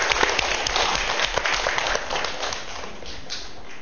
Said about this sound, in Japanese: すごいですね。 Isn't it wonderful? 神様に拍手します。アレルヤ。